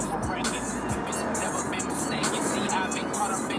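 Steady road noise from inside a moving car, a broad low rumble with other vehicles droning nearby, continuous and fairly loud throughout with no voices.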